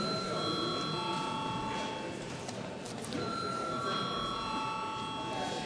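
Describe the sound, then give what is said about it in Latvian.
A continuous electric bell rings steadily and fairly loud throughout a parliament session, calling members to register and confirm a quorum, a sustained metallic tone over a murmuring room of indistinct voices and movement. “Tagad lūdzu zvanu reģistrācijai.”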